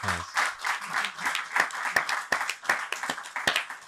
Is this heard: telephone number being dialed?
no